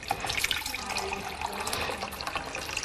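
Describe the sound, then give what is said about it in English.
Bottled water pours steadily into a container as a woman makes a cup of tea, a continuous splashing trickle lasting a few seconds with no voices over it. “She's making herself a cuppa, but with bottled water.”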